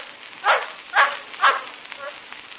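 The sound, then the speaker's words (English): A native dog named Unguru yaps three times at a steady half-second pace over a soft background hiss, followed by a fainter trailing call. “All I heard was the yap of a native dog.”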